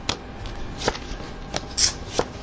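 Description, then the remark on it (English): Cards being shuffled in a few quick, crisp bursts of flicking and riffling, fairly quiet, with no voices. “I shuffled them well.”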